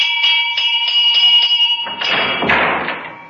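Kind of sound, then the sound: household object, front doorbell ringing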